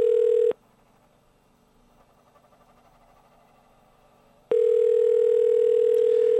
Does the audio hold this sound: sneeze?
no